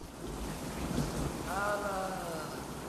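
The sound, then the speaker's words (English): Steady, dense rain pours down at night with a constant hiss and a low rumble underneath, while a brief wavering tonal whine rises and fades midway through. “Later that night, Owen is sitting under a stone archway, sheltering from the rain, staring into space.”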